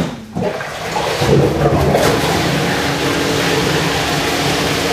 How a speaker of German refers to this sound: Also muss man sich jetzt wie einen großen gläserischen Kasten vorstellen, wo von unten jetzt Wasser hochgepumpt wird.